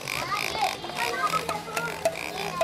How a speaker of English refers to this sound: An oinking, tail-wagging pig and a wide-eyed plastic soldier beating a drum compete for children's attention as they race into a toy store in Johannesburg.